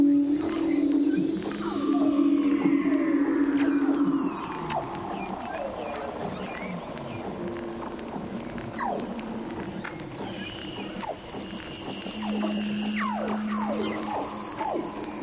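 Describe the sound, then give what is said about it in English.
Underwater calls of Antarctic leopard seals, Weddell seals and orcas recorded with hydrophones: a dense chorus of overlapping swooping whistles, descending glides and buzzy trills over a low steady drone, many calls at once. “Quinn used underwater mics called hydrophones to capture these hauntingly beautiful sounds of leopard seals, Weddell seals, and orcas.”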